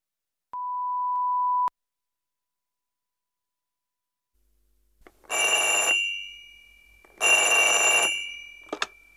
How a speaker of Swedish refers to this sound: Nu är det Ludde som ringer.